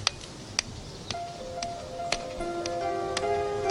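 metronome ticking

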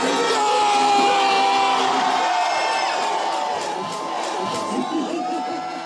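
crowd of fans cheering

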